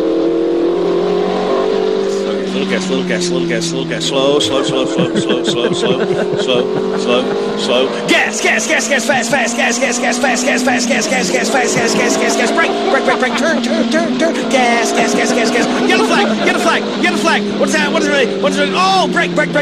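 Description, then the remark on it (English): A race car engine roars steadily from inside the cockpit, its pitch climbing and dropping as it revs through gear changes, loud and continuous throughout with faint voices underneath. “It's just a lot of stuff goes on inside that car.”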